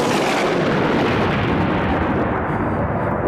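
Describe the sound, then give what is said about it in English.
A loud, sustained thunder-like rumble roars for a few seconds as a dramatic sound effect, not a real storm. It is broad and heavy, and its crackling upper edge fades while the deep roll continues. “That is no storm. Just a special effect marking something that will be significant later on.”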